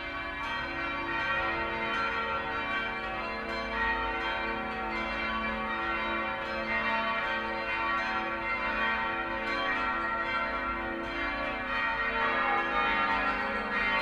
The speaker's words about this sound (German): ist das Anläuten des 10-stimmigen Plenums klanglich höchst ungewöhnlich, wenn mit jedem Hinzutreten einer Glocke die Tonart wechselt.